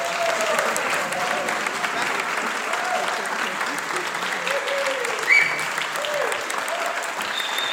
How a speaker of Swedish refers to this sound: Och så tycker jag att församlingen står upp. Och så klappar vi om dem.